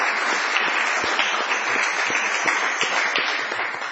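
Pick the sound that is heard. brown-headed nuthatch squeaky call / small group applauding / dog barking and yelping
small group applauding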